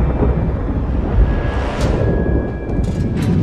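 thunder

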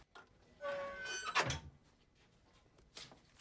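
safe door being opened

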